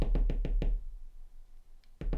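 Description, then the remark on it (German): A little old man, a leprechaun, taps rapidly with a small hammer on a tiny shoe, five quick sharp strikes in an even rhythm, a pause, then two more taps resuming at the end. No voices are heard. “Es war das Geräusch des Hämmerchens.”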